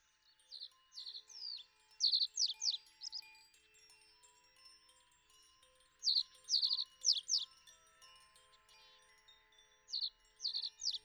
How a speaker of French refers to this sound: Dans la forêt, au bord d'un petit ruisseau, vivait un bel oiseau bleu. L'oiseau bleu était si heureux qu'il chantait et voletait sans cesse d'arbre en arbre.